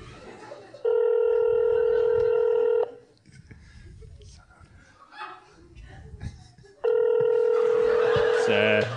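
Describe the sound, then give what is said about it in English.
A phone line ringing out on an outgoing call to Chevy Chase's phone: two long, steady electronic rings about four seconds apart, loud, with soft voices murmuring in the pause between them. “Please pick up the phone. Oh, my phone's ringing.”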